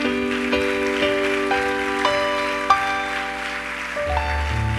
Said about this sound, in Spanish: ¿Cuándo le dan otro aplauso al Señor en esta noche?